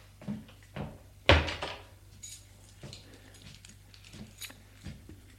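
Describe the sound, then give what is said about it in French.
A door opens with a sharp thump and clatter near the start, followed by softer knocks and shuffling footsteps over a low background hum. “La porte s'ouvre.”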